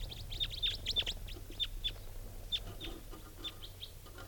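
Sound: bird calls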